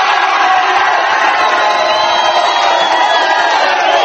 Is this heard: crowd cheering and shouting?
yes